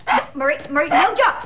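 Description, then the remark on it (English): A small, stubby brown dog yaps, four or five quick, high-pitched barks in an excited, uneven burst, fairly loud with nothing else heard. “a stubby brown dog.”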